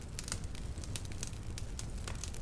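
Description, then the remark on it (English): A fire crackles steadily, with sharp irregular pops and snaps scattered over a soft, constant low rumble of burning, no voices present. “If your eyes are closed, take in that beautiful crackling sound and imagine action that happens in fire.”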